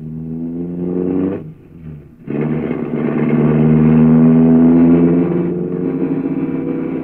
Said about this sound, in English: Good heavens! He isn't going to drive through these narrow streets at this speed, is he? He's used to the streets,